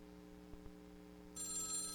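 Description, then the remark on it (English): A telephone in a studio starts ringing partway through: a bright, high-pitched electronic trill that continues steadily to the end, preceded by two soft clicks over a low background hum. No one speaks. “All right, he's going to take a call.”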